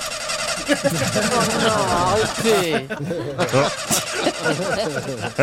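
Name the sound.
car engine cranking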